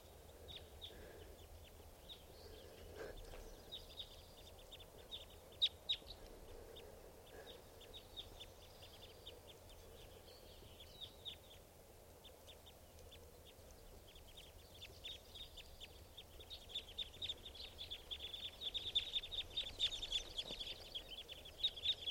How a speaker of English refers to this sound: Flock of big flock of crossbills just flew in here. Sound like type twos, must be about 10 or 12 birds. And they're perched up on the top of a tall Douglas fir right here by the camp. And the birds are just fluttering around and flying.